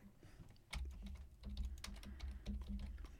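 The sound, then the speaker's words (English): Rapid, irregular clicking of keys on a computer keyboard as someone types to look up what the term PWD means, fairly loud, with a low hum underneath and no voices. “I'm just typing in for the video clip here.”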